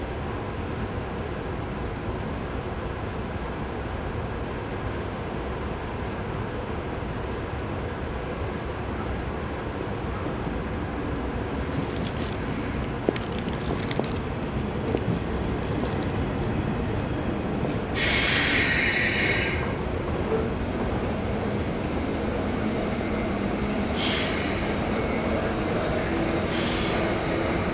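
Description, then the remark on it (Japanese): A train arriving at Takao Station in Japan rumbles steadily along the rails, then its wheels let out loud, high-pitched squeals as it slows, with a couple of sharp screeching bursts near the end and no voices. “高尾駅到着をいたします。”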